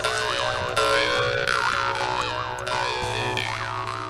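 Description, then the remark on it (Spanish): A jaw harp plays a steady buzzing drone with repeated twangs, its wah-like vowel tones sweeping up and down in a bouncy, rhythmic pattern. Loud and continuous, with no talking. “Esto es un arpa de boca.”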